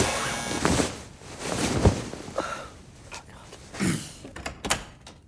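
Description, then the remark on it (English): A door sounds, with several sharp thuds and rattling clatters spread unevenly across a few seconds against a muffled, rumbling background. “The door.”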